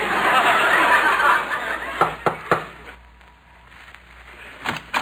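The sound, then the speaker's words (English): Three quick, sharp knocks on a house door ring out after a stretch of rushing noise, followed by a pause and then a couple more knocks near the end, as someone knocks to collect money owed for a repair job. “I'll knock on the door.”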